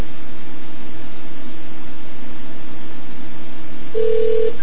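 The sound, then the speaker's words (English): Muffled AT&T telephone-line hiss and a low steady hum run throughout, with a brief keypad dialing tone beeping once near the end as a phone number is dialed. No one speaks. “I'm talking over the AT&T phone.”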